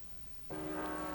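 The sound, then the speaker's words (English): After a brief quiet hiss, a bell in San Francisco strikes abruptly and rings on loudly with a rich, sustained metallic tone, warning people to evacuate the city as the Martians approach, heard from the roof of the KPEN studios on Nob Hill. No voices. “The bells you hear are ringing to warn the people to evacuate the city as the Martians approach.”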